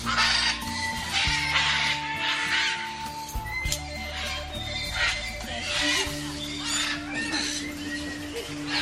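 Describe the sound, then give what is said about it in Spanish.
A flock of parrots squawks continuously and loudly from the treetops, with overlapping harsh, shrill calls crowding together and no pauses between them. “Otros dicen que los que vinieron eran solo un grupo de loros haciendo”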